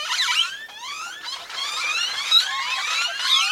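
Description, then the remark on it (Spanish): Great-tailed grackle calls overlap in a dense, steady chorus of rising and falling whistles, shrill squeals and raspy chirps, almost mechanical in tone, with no voices present. “Los anates traquetean, chillan, silban y chirrían. A veces incluso suenan más como una máquina que como un ave.”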